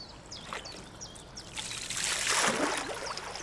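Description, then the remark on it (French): Water drips from a kayak paddle on the Nantes-Brest canal in Brittany, France, in a soft, irregular patter, swelling into a fuller splashing wash midway, with faint high chirps of ducks and birds scattered through. No one speaks. “J'entends les gouttes d'eau qui tombent de ma paillée, j'entends mon souffle, j'entends les canards, les oiseaux, les feuilles, le bruissement du vent.”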